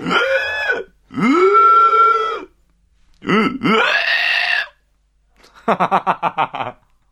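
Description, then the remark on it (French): Someone imitates a pig with a few long, nasal, throaty grunts, then a quick series of six or seven short rhythmic oinks. The snorts are loud and separated by brief pauses, with no ordinary speech. “Ah, il était pas mal mon cochon, non?”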